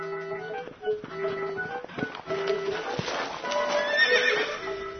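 A horse whinnies repeatedly over a steady clip-clop of hooves, the neighs loud with wavering tones while the hoofbeats keep a clear rhythm throughout.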